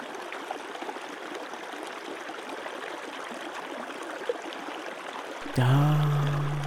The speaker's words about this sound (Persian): انرژی این آب رو به درونت بکش.